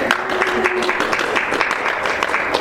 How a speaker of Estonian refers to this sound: Ette plaksutada, jah.